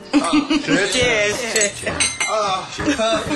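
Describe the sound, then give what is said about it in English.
Glasses clink together in a toast to a new, smaller home, a few bright chinks amid murmuring voices and soft chuckles. “Toast to our new, much smaller home.”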